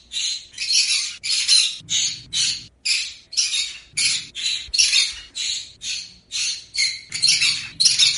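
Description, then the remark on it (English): A pet bird named Ari screams over and over, loud harsh shrill squawks repeating in a fast, steady rhythm for several seconds with no one talking, screaming because he wants attention and food. “And if he doesn't get it, he screams.”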